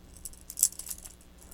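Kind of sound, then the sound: household object, keys jangling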